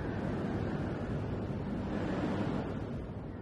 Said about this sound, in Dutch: Je hoort de zee. De golven. Het geruis van de branding.